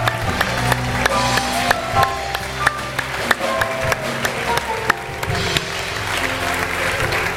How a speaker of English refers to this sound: Let's give a clap and a shout unto the Lord for this one today.